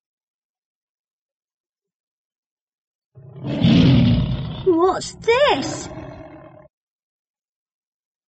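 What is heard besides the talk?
tiger roaring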